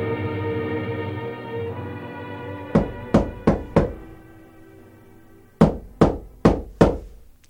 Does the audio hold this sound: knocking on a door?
yes